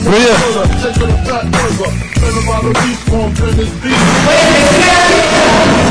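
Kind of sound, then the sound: crowd, crowd applause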